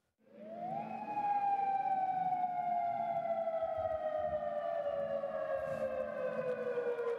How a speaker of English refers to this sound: Now, depending on where you are in Alaska, you might have heard a siren like this one in Kodiak go off this morning, or an alert message on your radio or TV around 10:20 this morning. That's what it would sound like in case of a real tsunami threat.